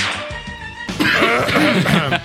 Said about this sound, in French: Pardon. Veuillez m'excuser, je me racle la gorge,